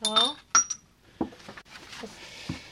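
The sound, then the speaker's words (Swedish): Three small shot glasses clink and knock together as they are handled on a table beside a bottle of rum, a bright ring followed by several softer, irregular taps, with a brief voice near the start. “Och så 3 snapsglas.”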